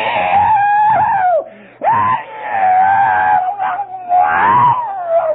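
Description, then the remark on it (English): Loud, sustained high-pitched screaming wails in several long drawn-out cries with brief breaks between them, intense, with no speech alongside. “Hear gnashing of teeth, screaming.”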